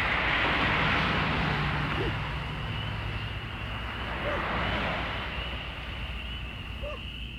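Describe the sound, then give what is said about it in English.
An airplane carrying sleeping travelers between cities drones steadily overhead on a country night, a broad, continuous rumble with a low engine hum that holds for several seconds and eases off only slightly toward the end. “Airplane carried sleeping travelers from one city to another.”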